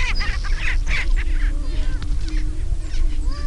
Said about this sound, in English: It's 5 a.m., pitch black with just a glimmer of light on the eastern horizon. It's hard to make out the prairie chickens, but you can already hear them.